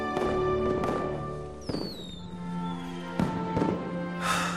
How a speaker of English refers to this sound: Daytime. In the ancestral temple, Mushu watches fireworks explode over Mulan's home.